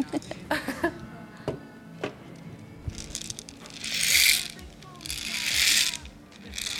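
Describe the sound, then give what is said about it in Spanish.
A homemade guasa shaker filled with seeds, after a few scattered knocks, is shaken in two sustained swishing bursts of bright, hissing seed rattle, with faint voices murmuring underneath. “Ese sí es una guasa.”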